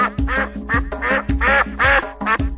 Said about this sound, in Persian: چهار تا اردک اینجا کواک کواک میخونن.